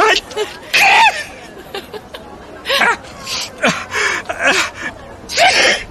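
Loud sneezing fit from a person with an allergy: a few sharp gasping inhales and breathy bursts spaced over several seconds, building toward a final forceful sneeze, with no talking.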